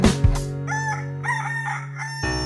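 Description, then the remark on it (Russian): A rooster crows once, a loud, drawn-out cock-a-doodle-doo with a raspy, wavering pitch that lasts about two seconds, with no voices around it. “Мама в комнату войдет, как только петушок споет.”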